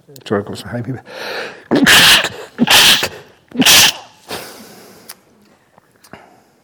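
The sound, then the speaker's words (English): Three loud sneezes from a Buddhist monk burst out in quick succession, each a sharp explosive blast, preceded by a brief voiced intake of breath and followed by quiet breathing. “It's really strange that because I'm a Buddhist monk for so many years, whenever I sneeze, I always sneeze three times.”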